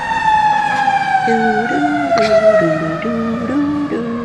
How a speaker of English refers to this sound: Oh, he's got the fire department going by his house again. Well, ring the alarm. Send them sirens on this damn thing.